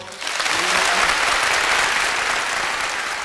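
Steady, dense applause from a large audience after a live song by a singer and guitarist, sustained and fairly loud throughout, with no one speaking over it.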